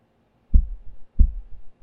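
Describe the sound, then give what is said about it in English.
A muffled human heartbeat thumps in a steady rhythm, each beat a deep low thud with a softer echo right after, repeating about every two-thirds of a second with no voices. “Can you hear my heartbeat? If it sounds a little faster, it's just because this is embarrassing.”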